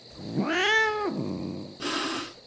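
A cat named Machiavelli gives one drawn-out meow that rises and falls in pitch, clear, followed by a short breathy hiss of noise.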